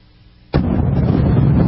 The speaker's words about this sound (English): And a soundtrack that sounds like a thunderstorm. Listen.